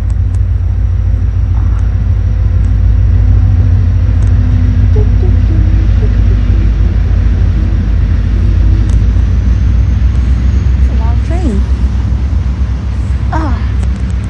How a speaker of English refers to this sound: Oh, there's a train coming.